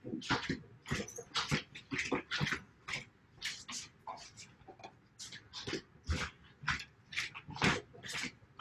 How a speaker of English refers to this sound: so there's going to probably be some barking from our dog. So just that too is part of it.